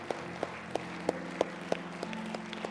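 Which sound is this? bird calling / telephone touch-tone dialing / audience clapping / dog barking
audience clapping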